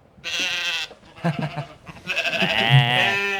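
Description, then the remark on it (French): Two loud, quavering sheep bleats, a short one at the start and a longer, wavering one at the end, with a brief murmur of lower sound between them. “Ouais, des bons moutons, c'est légionnaire, bordel.”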